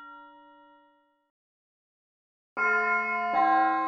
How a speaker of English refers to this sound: Can you hear it? The bell. Can you hear it? Away off in the distance.